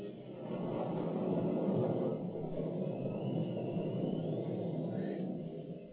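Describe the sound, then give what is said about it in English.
A dense, steady roar of stormy wind and churning waves around a rowing boat, loud, with no voices, easing only slightly in the final moments as the storm subsides. “Wind, waves, peace, be still.”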